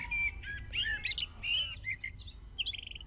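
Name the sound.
blackbird singing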